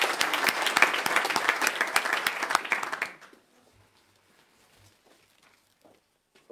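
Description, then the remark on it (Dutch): A crowd applauds with dense, steady clapping for about three seconds after a new council member takes the oath of office at a council meeting, then it stops abruptly, leaving near silence with a few faint, scattered sounds. “Applaus.”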